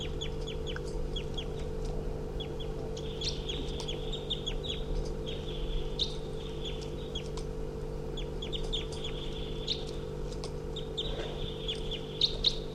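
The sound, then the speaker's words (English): A wild female bird, on the ground and hopping around nearby, calls over and over in quick, high-pitched chirps and trills, with a steady low mechanical hum running underneath throughout. No one speaks. “There's a wild bird calling loudly nearby.”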